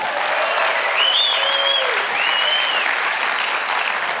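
An audience claps in a dense, steady burst of applause that holds at full strength throughout, with a couple of high, gliding whoops or whistles rising above it partway through.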